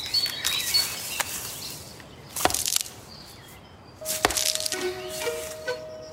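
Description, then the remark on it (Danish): A black woodpecker pecks at tree bark in a forest, hunting for insects behind the bark, giving a few sharp, irregular knocks and cracks, while thin, high bird calls and chirps carry on faintly in the background. “Med sit kraftige næb og stærke nakke hakker sortspætten efter insekter bag barken.”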